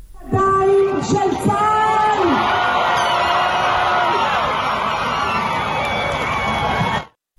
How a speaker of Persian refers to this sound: با اعلام خبر تحویل 7 نفر از گروگان‌ها به صلیب سرخ، خانواده‌ها در میدان گروگان‌های تل آویو فریاد شادی سر دادند.